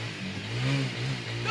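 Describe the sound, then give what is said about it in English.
A motorcycle engine right outside a door revs loudly, its throaty drone rising briefly in pitch and falling back to a steady rumble with no voices. “He's got his motorcycle right outside his door.”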